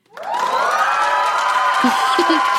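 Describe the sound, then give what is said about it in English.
A TV studio audience erupts into screaming and cheering, a sustained roar of many voices that swells quickly and holds steady, with a few brief individual shouts rising above it near the end. “And that audience was me screaming yes.”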